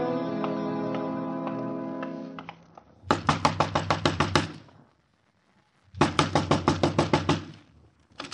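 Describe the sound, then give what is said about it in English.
A sustained musical tone fades out, then comes a loud, rapid flurry of about nine hard knocks on a door, a brief pause, and a second equally forceful burst of knocking. “Next time, knock soft, mister. You want something from Jonesy”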